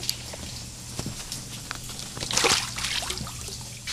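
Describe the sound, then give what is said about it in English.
Light water sloshing and small splashes, with soft drips and ripples that swell briefly in the middle before settling into gentle lapping, with no voices, as a recuperating seabird floats in a small pool so its feathers can be tested for waterproofing. “So she puts him in a small pool to test how his feathers are working.”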